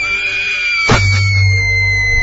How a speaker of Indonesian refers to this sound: terdengar suara teriakan dari luar kamar.